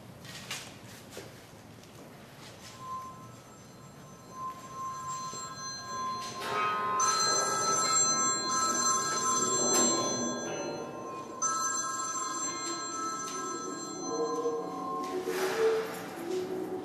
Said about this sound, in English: And instead of silencing their phones, the students are turning them up, using alarms and ringtones to punctuate the song.